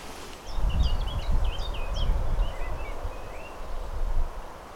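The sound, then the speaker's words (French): Several birds sing and warble together, chiffchaff, blackcap and blackbird, in short, fairly soft phrases over a steady low rumble of distant traffic on the Nationale 12 road, on arrival at Morlaix, Brittany. No one speaks. “Au loin, on entend la Nationale 12, et plus près, eh ben, y a le Pouillot Véloce, la Fauvette à tête noire, et le Merle Noir.”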